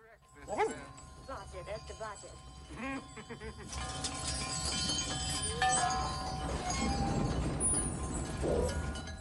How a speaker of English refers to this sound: The shiny metal sails on wind chimes flap back and forth. Windmills spin rapidly.